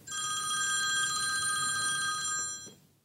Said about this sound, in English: Later that day, my phone rang.